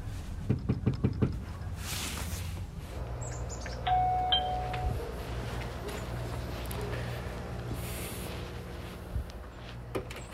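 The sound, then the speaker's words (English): A quick series of about six firm, loud knocks on a front door in Salisbury, followed by quiet background hum and a brief ringing chime a few seconds later. “I essentially just kind of knocked on a lot of doors.”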